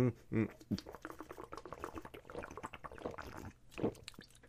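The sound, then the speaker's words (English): Sounds of someone drinking water: wet gulps and small liquid slurps in an irregular run, with a brief vocal sound at the start and quiet behind. “Ah, gotta drink water.”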